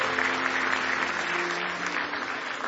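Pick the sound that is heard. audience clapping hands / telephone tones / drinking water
audience clapping hands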